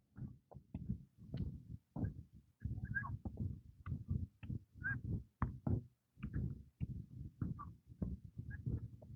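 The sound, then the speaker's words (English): A string of geese honking far off to the east, a faint, irregular series of short nasal honks repeating over several seconds, with no voices present. “I hear geese, a goose or two.”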